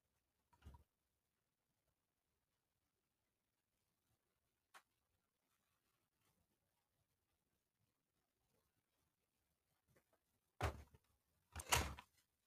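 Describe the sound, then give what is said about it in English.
A door is handled and shut: a soft knock early on, a faint tick, then a rattling clatter followed by a loud slam near the end, with near-silence in between. “Sorry, guys, I had to close the door.”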